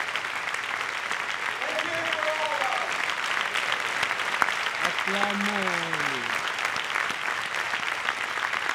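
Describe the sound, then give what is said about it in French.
A crowd claps steadily and loudly for an audience member who has 10 children, a dense unbroken patter of hands, with a few voices whooping and cheering over it partway through. “Vraiment, il mérite l'acclamation spéciale.”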